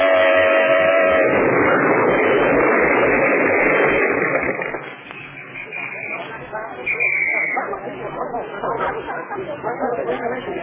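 A car horn blares in a loud, sustained blast at the start over rumbling city traffic noise, sounded to make the car ahead move over. It then settles into a steady mechanical roar with faint chatter.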